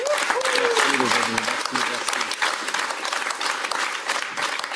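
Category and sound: crowd, long audience applause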